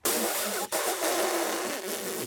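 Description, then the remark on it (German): A voice imitates an elephant's trumpeting, as practice with an animal-language app: a loud, brassy, rasping blare with wavering tones, broken by one brief pause and then continuing for about two seconds. “Ewi Elefant. Ah, ja, das klingt schon sehr echt.”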